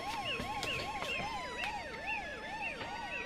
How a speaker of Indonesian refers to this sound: Bu, ibu, siapa yang sakit, Bu? Iya, Bu. Tadi terdengar suara ambulan.